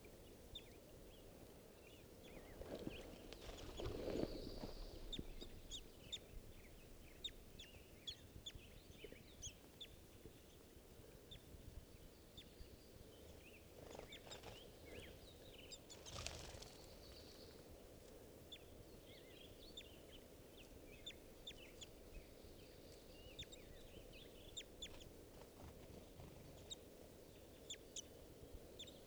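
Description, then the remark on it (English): Birds call at a little waterhole at a scout camp at 7:30 in the morning, a family of juveniles, males and a female: scattered short, high chirps and soft clucking notes run throughout, with a few louder, rougher bursts near the start and middle over a steady low rumble. “morning now at 7:30, and I'm right near a little waterhole down right at the scout camp, and there are some other birds, a family of twos here.”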